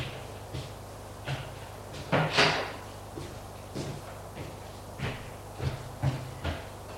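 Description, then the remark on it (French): Doors being opened: a series of scattered clunks and clicks, with one longer, louder scraping rush in between, all over a steady low hum and no voices. “Ouvrent les portes.”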